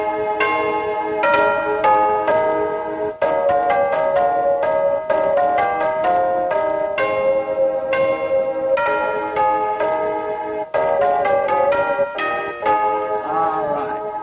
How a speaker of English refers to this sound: Not only does it do a doorbell, but it will also do six melodies. I'll move the switch over. Or it'll do three melodies.